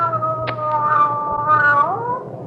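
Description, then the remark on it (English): A cat meows in one long, drawn-out yowl lasting a couple of seconds, its pitch wavering and bending at the end, fairly loud over a low background hum. “What makes you think she's a male cat?”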